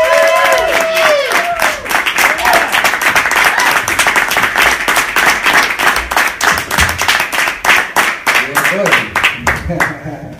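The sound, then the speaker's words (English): A crowd claps loudly and steadily to welcome a performer, with whoops and cheers rising over the dense applause; the clapping settles into a rhythmic, fairly even beat toward the end. “I want you to get your hands going right now. I want you to get it loud, and I want you to stay loud.”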